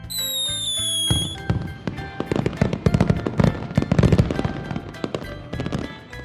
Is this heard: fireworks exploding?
yes